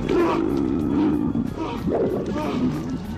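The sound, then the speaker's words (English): A loud, harsh scream from the Japanese horror film Ju-on holds steady for about three seconds, rough and roar-like with a wavering, fairly low pitch and no break. “That's Japanese screaming there that you maybe recognize from Godzilla movies.”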